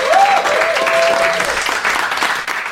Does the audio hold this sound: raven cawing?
no